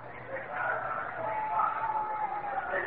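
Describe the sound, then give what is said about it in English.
A baseball stadium crowd reacts as Yankees batter Joe Pepitone comes up to bat, a steady, loud wash of many voices that holds for three seconds without a break, over a faint low hum, with no single voice standing out. “And listen to the crowd reaction.”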